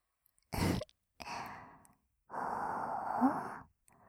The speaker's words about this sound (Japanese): 息切れちゃってる。いっぱい興奮してたんだね。